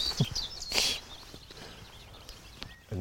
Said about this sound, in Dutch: Hier, kijk, boven je. Dit is een grasmus. Ja, zie hem. Grasmus, maar veel mooier te zien.